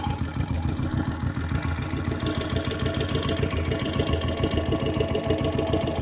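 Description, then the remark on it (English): A contact mic slid along the length of an idling motorcycle exhaust pipe picks up a dense, steady engine throb with rapid rhythmic pulsing and metallic clatter, loud, no voices. “It's almost like you can hear hot spots where it gets loud.”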